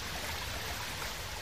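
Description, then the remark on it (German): A mountain stream babbles steadily over rocks, a dense, continuous rush of water with fine splashing texture, even throughout with no voices. “Der rauscht und plätschert so schön.”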